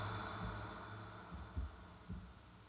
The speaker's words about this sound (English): With each heartbeat, you think of the word relax. With each heartbeat, I want you to think of the term relax in your mind. With each heartbeat, you will mentally repeat the word relax.